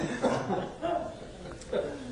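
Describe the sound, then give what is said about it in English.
Several scattered coughs and throat noises rise from audience members, brief bursts spread over a couple of seconds, with murmuring in the background. “Listen to all the coughs going on out there now.”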